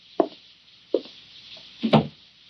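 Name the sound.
door being shut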